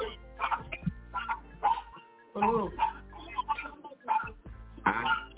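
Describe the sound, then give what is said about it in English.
A small chihuahua barks repeatedly outside in quick, uneven bursts, sounding somewhat muffled, with faint indistinct voices mixed in. “Dude, that sounds like some pit chihuahua out there.”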